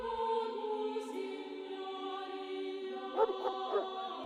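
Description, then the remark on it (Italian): A dog in a valley by Gubbio, Italy, gives a long, steady whining cry, then lets out three quick, sharp, fairly loud barks near the end. No one talking. “Il cane percuote dilatrati la valle.”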